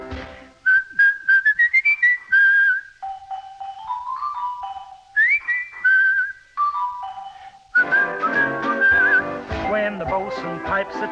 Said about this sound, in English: When the bosun pipes a tune, he always serenades you with a chanty you can croon. There's a twinkle in his eye, and nobody can deny that when he starts to play, right away, it's hotter than the 4th of July.